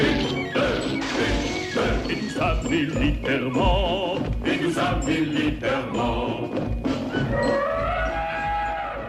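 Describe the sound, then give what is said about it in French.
Dense, continuous crashing and snapping as people walking through the jungle trample and crush the thickets, with repeated loud cracks and rustling bursts throughout, some faint higher chirps in the background. “Dans la jungle, nous pensons, sans savoir où nous allons, vous nous entendez broyer les fourrés.”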